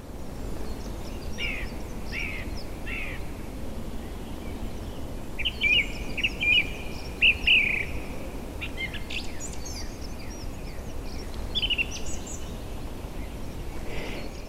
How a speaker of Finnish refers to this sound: Ja päällimmäisiä laulajiahan ne sillä tavalla nyt ovatkin, että aivan tuolla metsän latvassahan ne asuvat ja laulavat metsän katolla. Laulurastas ja mustarastas ylimpänä ja ylimmissä latvanipukoissa.